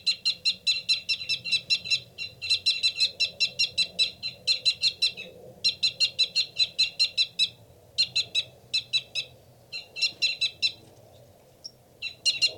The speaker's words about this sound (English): That loud, rapid one is the male. A fight call from the male.